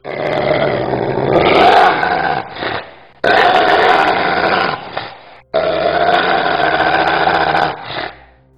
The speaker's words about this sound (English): Then she opened her mouth so wide that I could see all of her teeth, and she made the most horrible sound I've ever heard. It was like a dog snarling.